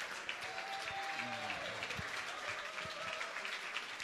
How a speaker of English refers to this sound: And how about the man to my right, Razorback great Quinn Grovey. Still gets the big round of applause after all this time.